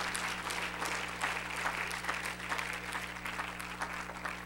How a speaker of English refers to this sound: God's not ever going to bring it up again. That's worth some applause.